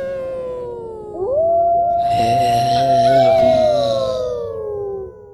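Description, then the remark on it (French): Long, wavering wolf-like howls of three werewolves in the icy night rise and hold, with a second harsher howl joining in midway so several voices overlap loudly before fading out together. “Ils hurlent maintenant.”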